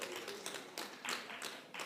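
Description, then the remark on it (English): A church audience applauding, a dense, steady patter of many hands with slight surges, fairly soft, with no voices over it. “You can keep clapping.”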